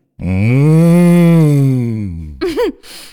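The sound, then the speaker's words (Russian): A human voice imitates a cow, holding one long, loud, low moo for about two seconds, then ending with a short wavering vocal flourish. “«Надо мычать». «Я мычу».”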